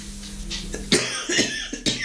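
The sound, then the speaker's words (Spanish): A short fit of dry coughing caused by house dust: four or five harsh bursts in quick, uneven succession, with no talking around them. “Me dio tos el polvo.”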